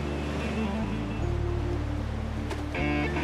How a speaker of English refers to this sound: He flops forward into the waves and washes himself off.